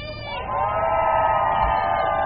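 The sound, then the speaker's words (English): A crowd cheers and shouts loudly and steadily, a swell of many voices rising after a brief start and holding at full strength throughout, with whoops mixed in. The crowd is at a Fight 15 workers' rally in New York City, welcoming a striking Verizon worker. “Let's give her a round of applause, everybody.”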